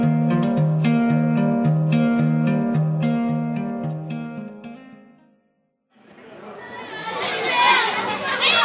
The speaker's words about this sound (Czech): Děti, sklidníme se. Ticho, ať nás páni filmaři nevyženou pryč.